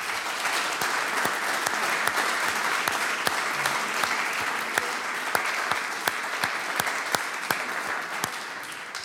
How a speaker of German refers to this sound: Wir sind froh, dass wir ein Publikum haben, das herkommt, das uns zuhört und eine Freude mit uns hat. Und deswegen kommt der nächste Applaus von der Bühne an unser Publikum. Danke euch.